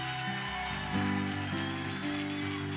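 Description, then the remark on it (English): A crowd claps steadily in a dense, continuous wash of hand claps at a Children's Church, with sustained musical tones holding underneath throughout. “Come on, give another hand clap.”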